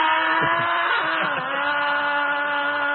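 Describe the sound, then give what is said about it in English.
A loud, continuous metallic screech of train wheels, holding steady high-pitched tones with a harsh grinding edge for about three seconds, with no voices. “Okay, let's just say this is a train screeching.”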